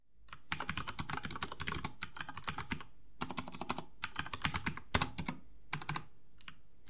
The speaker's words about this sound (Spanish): Y ahora van a escuchar cómo suena el teclado con interruptores marrones.